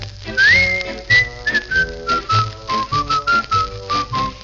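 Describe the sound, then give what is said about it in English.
A bright, cheerful whistled melody glides and hops between notes over a bouncy instrumental accompaniment with a steady, upbeat rhythm. It is clear and up front, with no one talking. “It's a merry, merry whistle with a very merry beat.”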